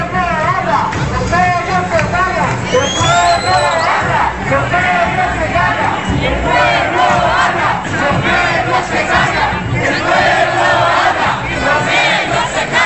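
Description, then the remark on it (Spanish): A large crowd of protesters at the 15M demonstration in Spain, setting off from Atocha at 8 in the evening to retake the Puerta del Sol, shouts and chants together, many voices rising and overlapping in a steady, loud roar, with individual yells cutting through the din throughout. “Animándose unos a otros para recuperar, como sea, la Puerta del Sol. Así empezaba la manifestación del 15M a las 8 de la tarde y que arrancaba desde Atocha.”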